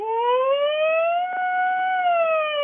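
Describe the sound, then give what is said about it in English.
A single long, loud human holler that slowly rises and holds its pitch like a wailing siren, a distress call for help across the woods. The voice imitates a siren, and no other sounds accompany it. “And then distress, if you got in trouble, this would be your 911 call across the woods with the echo.”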